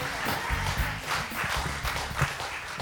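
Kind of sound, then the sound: crowd, audience hand clapping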